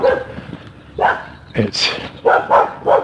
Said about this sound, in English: Bark, bark, dog, bark, bark. Bark, bark, bark, bark. Bark.